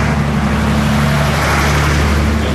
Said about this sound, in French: Il y a l'énorme camion.